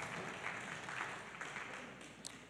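audience clapping

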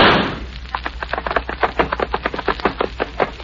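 gunshot

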